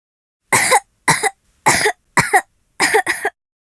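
A series of six harsh coughs in quick bursts, the last two nearly back to back, with short silent gaps between and no talking.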